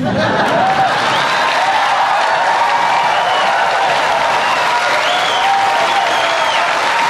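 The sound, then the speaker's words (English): A large audience applauds loudly and steadily, a dense wash of clapping with some cheering mixed in, sustained without a break the whole time. “But, and that gets a lot of applause here, the fact is it's a very effective way for him to reach tens of millions of Americans.”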